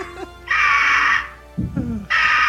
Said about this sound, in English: and of course the Eagle that we have here in studio. Sing it out, Eagle.